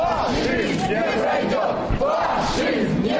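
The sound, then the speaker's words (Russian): A loud rally crowd of Young Guard and Mestnye movement activists at an embassy building on Maly Kislovsky Lane chants and shouts together in rhythmic bursts, in a contest for the most original chant about Estonia. Many voices blend into a dense, continuous roar with rising and falling cries. “Там звучит музыка, продолжается конкурс на самую оригинальную кричалку по отношению к Эстонии.”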